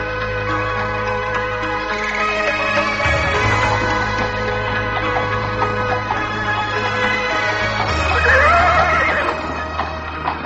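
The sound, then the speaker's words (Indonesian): A horse neighs loudly, with a long whinny that rises and falls near the end, over a steady low rumble and faint hoof clatter. No one speaks. “Enak menunggang kuda.”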